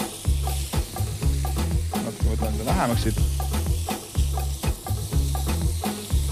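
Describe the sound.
Rice is added to a hot pan and sizzles steadily while a utensil scrapes and clinks against it in quick, irregular strokes, over a low background hum; a voice briefly speaks.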